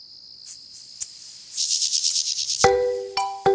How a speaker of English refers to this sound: they heard this noise, they realised it was a mole cricket, and they then, after looking around, found there was a population of 20 or 30 of these things which had gone undetected for 20 years, and that's the only population known in the UK.